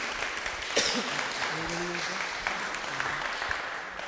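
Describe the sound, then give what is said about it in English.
Steady applause from an audience at a Christian service, encouraging a young man coming up to speak: a dense continuous patter of many hands clapping at moderate loudness, with faint murmurs of voices mixed underneath. “if you'd like to come and give him an applause of encouragement.”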